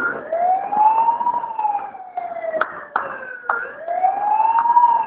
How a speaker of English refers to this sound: That's the warning siren.